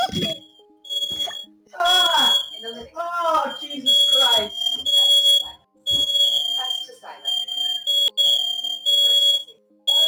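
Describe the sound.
A smoke alarm blares in loud, piercing high-pitched beeps that repeat in long bursts, while a voice talks over it during the first half.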